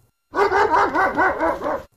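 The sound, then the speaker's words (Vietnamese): A shaggy white dog named Capi barks in a quick, steady run of about six yapping barks, loud, with no other sounds around it. “Nghe tiếng gọi, con chó xù trắng khoanh hai chân lại.”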